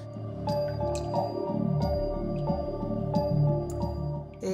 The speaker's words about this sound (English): And therefore, in Lourdes, we can see water in all its forms. We have the miraculous water which comes from the grotto and which heals, and then we have the water from the rock which runs here